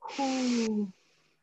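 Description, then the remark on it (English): One deep, heavy breath, a long breathy exhale with a slight voiced groan that fades out after less than a second. “Deep breathing.”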